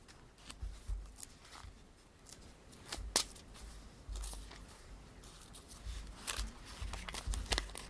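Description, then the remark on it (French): Thin, crisp Bible paper pages rustling and flipping as someone turns to Romans 6, a series of quick papery swishes and crackles spread irregularly over several seconds, with no voices. “Papier Bible, c'est génial, sauf que c'est compliqué à tourner de manière juste.”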